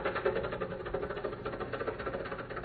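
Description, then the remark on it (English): An old car engine chugs and rattles steadily, with a rough knocking pulse running through the whole stretch and no voices over it. “This car's good enough. I can keep it for quite a while yet.”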